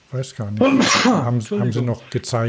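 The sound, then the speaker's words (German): A single sharp sneeze bursts out in the middle of conversation, loud and breathy, with people talking just before and after it. “Gesundheit.”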